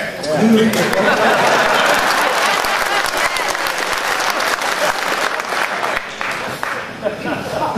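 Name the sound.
applause in parliament chamber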